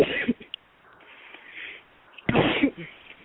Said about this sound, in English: They're sneezing. I guess they do not have a question.